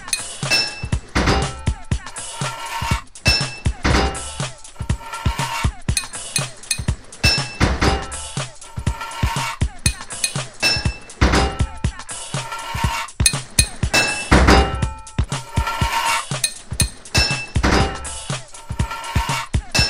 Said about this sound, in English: Four pipes in your toolbox. 10 total pipes to fit this level. 2 hits of your hammer to fit a pipe.